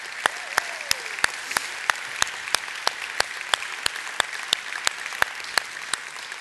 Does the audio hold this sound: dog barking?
no